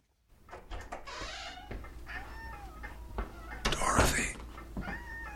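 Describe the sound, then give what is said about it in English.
A cat meows repeatedly, a series of rising and falling cries, while a man, Angus Scrimm playing a grandfather in a drama, speaks briefly to it over a low steady background hum. “Here he is as the grandfather speaking to his deceased wife, who is embodied in a cat.”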